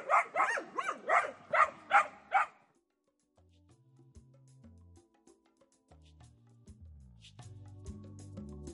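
A dog barks loudly, about seven quick barks in a steady run over two seconds, then the barking stops and only faint, low tonal sounds remain.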